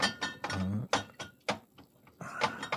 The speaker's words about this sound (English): It's a bottle. It's definitely a bottle, yeah. Definitely a bottle. 12 ounce? Like? 12 ounce. Silver cap.